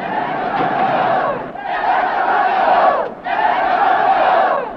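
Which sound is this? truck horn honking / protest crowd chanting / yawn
protest crowd chanting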